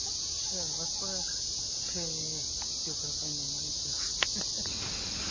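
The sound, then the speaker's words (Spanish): Cicadas drone at a lookout point in a steady, unbroken high-pitched chirr throughout, with faint voices murmuring underneath and a couple of brief clicks near the end. “Las chicharras de fondo otra vez y un pájaro por ahí que se llama Pio Pio Pio.”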